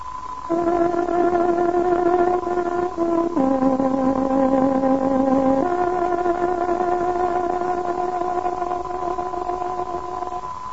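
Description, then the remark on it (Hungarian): A tárogató plays a slow signal melody of three long held notes, the middle one lower, in a steady, reedy tone, alone over a faint hiss with no talking; it is the exact time signal of the radio station Szabad Magyarország hangja, marking 19:00. “Most pontos időjelzést adunk. Tárogatónk hangja 19 órát jelent.”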